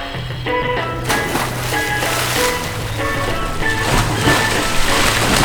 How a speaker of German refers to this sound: Meine Damen und Herren, willkommen zum Aquamusical Geheimnis im Meer. Begrüßen Sie mit einem donnernden Applaus unsere Meeresbewohner.